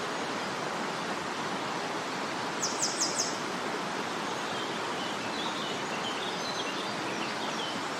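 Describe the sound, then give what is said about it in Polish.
A short burst of four or five sharp, high chirps from a singing grey wagtail cuts through the steady roar of a rushing mountain stream, with a few fainter notes following. “No nawet teraz tutaj też gdzieś fajnie śpiewa. Na dole.”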